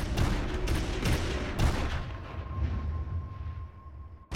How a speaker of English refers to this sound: Coming up, the mountain erupts in gunfire.